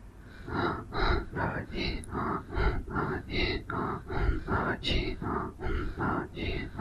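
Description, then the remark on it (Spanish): Quick, forceful breaths repeat in a steady rhythm, roughly two or three per second, clear with no talking, each inhale and exhale like a short puff; a demonstration of rapid breathing that takes two complete breaths to complete a mantra. “Pero con la respiración rápida necesitamos 2 respiraciones completas.”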